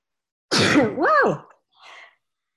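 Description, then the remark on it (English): A single loud sneeze: a sharp, breathy burst that slides into a voiced, wavering tail, followed a moment later by a softer, brief exhale. “Whoa. Oh, that went. Bless you again.”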